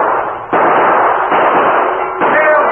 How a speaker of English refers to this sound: Jailbreak! Prisoner's broken free! Jailbreak! What happened? Why are you firing that? Why the alarm? Warden, it's a jailbreak.